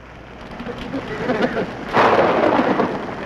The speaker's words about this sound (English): Looks like an all-night rain.